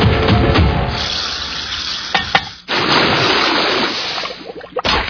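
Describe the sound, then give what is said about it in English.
Water hisses and sizzles steadily over hot campfire embers as they are doused and the ashes stirred with a stick, a continuous crackling steam with a few sharp scraping and stirring knocks, briefly dropping out midway before resuming. “After stomping your campfire, always douse the embers and stir the ashes with a stick.”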